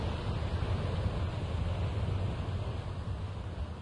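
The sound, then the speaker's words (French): A strong west wind roars steadily with a deep, rumbling low end and a constant hiss, loud, without gusting or pausing for the whole stretch, and no voices. “Et l'Éternel fit souffler un vent fort d'ouest qui emporta les sauterelles et les précipita dans la mer rouge.”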